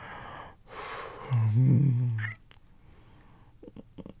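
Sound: heavy breathing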